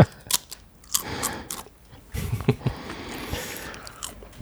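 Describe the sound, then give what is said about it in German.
Crunchy chewing and biting of Christmas cookies from the table, a series of sharp crisp cracks followed by steady munching, loud with no talking. “Aber wir haben hier knusper Plätzchen auf dem Tisch.”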